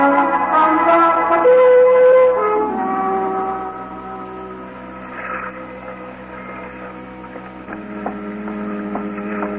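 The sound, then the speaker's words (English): A ship's bell strikes four bells late at night in fog, aboard a barge at a pier, with long, ringing tones that fade slowly over a steady low hum, followed by a few fainter strikes toward the end. No voices are heard. “It's late at the Four Bells.”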